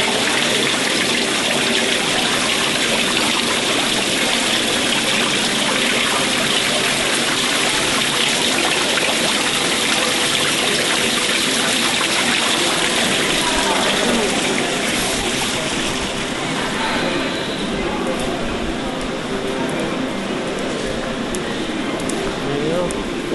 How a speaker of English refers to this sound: That's what it sounded like when they're sleeping on the balcony at Adventureland. Yeah. All night long, because they had this thing that was shooting water out of the little pool. Mm-hmm. And it sounded like that.